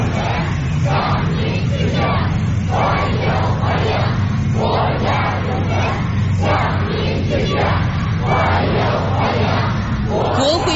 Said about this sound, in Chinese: 秋风如送，青少年代表手持鲜花欢呼着迎接功勋模范的到来。